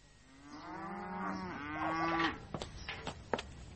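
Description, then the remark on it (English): A spancelled cow lets out one long, drawn-out moo that swells and bends in pitch, loud, followed by a few sharp knocks and clatters as it fades. “Now I've spancelled the cow and fed the pigs, and the uncle will be ready for his tea.”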